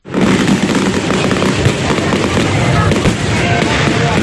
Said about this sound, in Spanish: Ayer muy aplaudido, nos dicen, el espectáculo de luz y sonido sobre la fachada de la capilla y la pirotecnia que deslumbró.